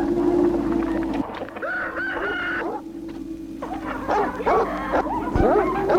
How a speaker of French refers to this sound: Lorsqu'ils arrivent dans la cour, le chien aboie.